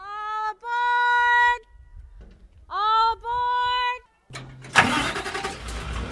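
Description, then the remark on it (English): A car's starter whines in two cranking bursts, then the engine catches and rumbles to life, loud. “Today, trams carrying thousands of visitors snake through the giant sequoias on paved roads, and cars hustle tourists to the trees.”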